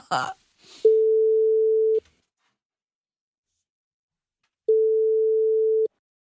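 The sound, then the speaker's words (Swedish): A phone's ringback tone while calling a man: two steady, clear beeps, each about a second long, separated by a few seconds of silence, heard after a brief rustle at the start. “Vet du vad vi gör? Nej. Vi ringer honom och frågar.”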